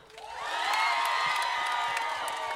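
A concert crowd erupts in loud, sustained cheering with high whoops and shouts over a steady wash of clapping, swelling quickly and staying full for the whole stretch.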